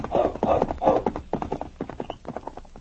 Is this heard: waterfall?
no